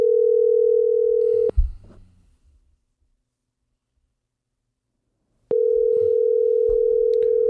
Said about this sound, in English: Making a phone call. Here we go.